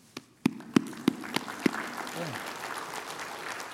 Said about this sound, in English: I wanted them to clap, and I didn't know if they would clap for me, but I thought they might clap for you.